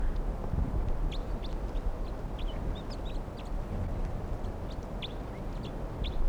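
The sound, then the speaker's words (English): A huge flock of wild crossbills, some being caught in a net, gives many short, high chirping calls, scattered irregularly and overlapping throughout, over a steady low rumbling background noise, at about 11:52 a.m. No one speaks. “It's a huge flock.”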